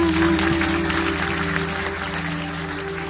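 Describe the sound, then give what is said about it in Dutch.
A crowd claps in a steady, dense wash of applause for about three seconds, welcoming a man coming forward during a morning service, with a low sustained tone humming underneath. “Zullen we hem even welkom heten met een hartelijk applaus?”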